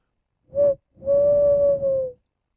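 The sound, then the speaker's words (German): A man imitates an owl call, recorded as a jingle: one short hoot, a brief pause, then a long, steady, breathy hoot that sags slightly in pitch before stopping. No talking. “Und jetzt hört ihr den ersten Eulenruf.”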